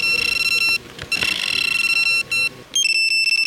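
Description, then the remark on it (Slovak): Rapid electronic beeping from a fishing bite alarm on a rod resting on a stand while bottom fishing, signalling a fish bite, a steady high-pitched tone repeating in quick bursts with brief pauses between runs, loud, with no voices. “Upozorňuje rybára, že rob volá čo sekaj a zdolávaj tú rybu.”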